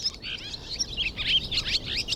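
Swallows chirp and twitter in a busy, continuous chatter of quick high-pitched notes, several birds overlapping with no voices present.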